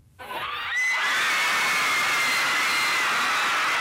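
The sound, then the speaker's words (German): A crowd of tens of thousands at Argentina's National Congress erupts just after 4 a.m., as the Senate approves legalizing abortion, into loud, sustained cheering and jubilant shouting, with high screams and whoops rising over a dense roar that swells within the first second and stays loud throughout. “Es ist kurz nach 4 Uhr morgens, als für Argentiniens Nationalkongress der Jubel ausbricht.”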